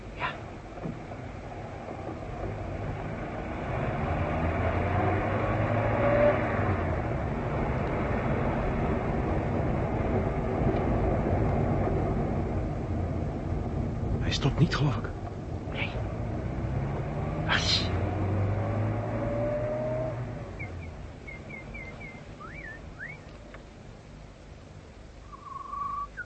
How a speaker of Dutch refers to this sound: Luister eens. Hoor je dat? Een auto? Ja. Die komt uit het dorp.